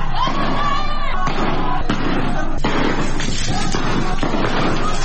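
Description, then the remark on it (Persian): Several sharp gunshot cracks from security forces firing on protesters in Iranshahr, Sistan and Baluchestan province, Iran, ring out at irregular intervals over a loud, dense crowd of shouting voices, cutting through the constant din. “در استان سیستان و بلوچستان مردم در شهرهای خاش، ایرانشهر و زاهدان به خیابان آمدند که در ایرانشهر با شلیک گلوله نیروهای امنیتی اعتراضات به خشونت کشیده شد.”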